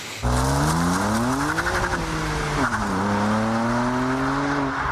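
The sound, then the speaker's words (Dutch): A BMW M2 CS sports car's engine roars and its pitch climbs and dips while the tires squeal through a skid, leaving marks on the asphalt, loud and unbroken for about five seconds, with no one talking. “Oh, je hebt weer wat streepjes op het asfalt neergezet.”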